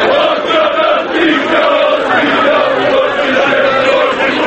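A large crowd of Partizan football fans in a stadium chants threats together in unison against journalist Brankica Stanković, a loud, dense wall of voices holding a sung, rhythmic melody without pause throughout.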